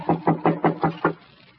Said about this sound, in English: Well, this is the only door that's closed. I'll knock.